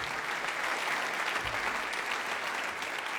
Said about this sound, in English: Our saxophone section. A big round of applause for the rhythm section, please. …, ladies and gentlemen,